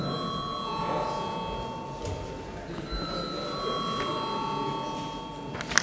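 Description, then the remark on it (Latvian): A parliament chamber bell rings steadily for several seconds before a vote, a sustained metallic tone that shifts pitch partway through, over a low murmur of voices and shuffling. “Lūdzu zvanu.”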